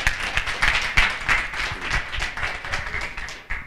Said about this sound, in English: Thank God, you, Pastor. Give our pastor a good clap offering.